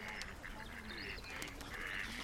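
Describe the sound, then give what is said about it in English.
Several ducks quack in overlapping, nasal bursts that run steadily through the whole stretch, with no one talking over them; most of the ducks are in the water to the left, and three are to the right. “The ducks are mainly in the water to our left, but there's a couple to our right, just three of them.”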